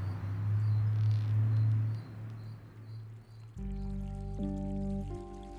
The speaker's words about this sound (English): Right now, I'm sitting by a stream where she spent the last 2 years. The water flows down the stream, parts and then flows together.